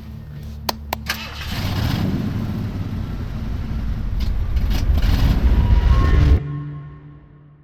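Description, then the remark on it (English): A few sharp clicks, then a car engine turns over and catches without keys, its low rumble swelling steadily for several seconds before cutting off abruptly. Loud, with no talking. “You think this car requires keys?”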